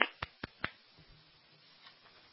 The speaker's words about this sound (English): And then the three people listening to him, you can all hear them clapping. Yay!